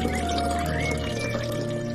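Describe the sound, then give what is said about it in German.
Water is poured onto a flowering plant in a steady, continuous stream for a couple of seconds, a fairly loud gurgling splash with a slight rising tone and no voices. “Du bekommst auch noch ein bisschen Wasser.”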